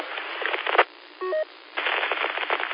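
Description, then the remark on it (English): Harsh, crackling squelch static from a mobile radio on a repeater, with squelch set to zero, hisses for almost a second, cuts out, and a short electronic tone beeps in the quiet gap before the loud static rushes back. “Have full background static on zero, and on five you should barely be able to pick up solid stations from the repeater.”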